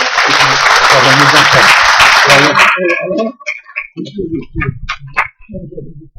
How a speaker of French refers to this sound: 90 ans, merci Seigneur. On peut applaudir